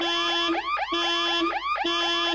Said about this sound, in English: Well, that works. Yeah, it does. It sounds a bit like when you get an answer wrong on QI, but... it's a car alarm.